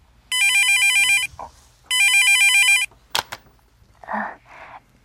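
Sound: mobile phone ringtone ringing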